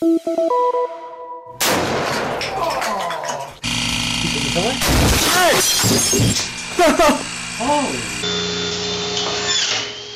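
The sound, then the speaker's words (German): A loud, abruptly cut sequence of crashing and splintering noises as wood splinters and flies about and pressure vessels explode without warning, with sharp explosive bursts and harsh tool-like grinding, after a short tonal intro. Voice-like cries rise and fall through the din. “Holz splittert und schießt durch die Gegend, Druckbehälter explodieren unangemeldet und irgendwo bekommt jemand einen Stromschlag, weil er die offene Leitung übersehen hat.”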